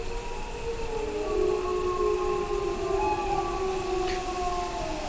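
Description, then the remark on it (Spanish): A pack of adult wolves, heard from far away, howl together in long, deep, overlapping wails that rise and glide, forming a sustained chorus over a steady background hiss, communicating with other members of the pack. “Bueno, yo creo que estos son lobos adultos los que hacen estos aullidos así graves.”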